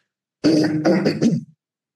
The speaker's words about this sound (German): Merkst, ich muss mich ständig räuspern, das tue ich jetzt nochmal ausgiebig, bevor ich über Loma erzähle.